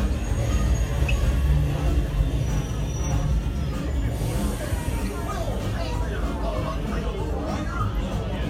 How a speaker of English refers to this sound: for your safety aboard the train, please keep your hands, arms, feet, and legs inside your car at all times.